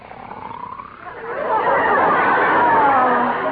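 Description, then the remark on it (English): A man's loud, rasping snore, from the sleeping character George in the radio show My Favorite Husband, swells after a quieter first second into a long, steady, growling rumble that holds to the end, with no talking. “George, make a noise. Snore.”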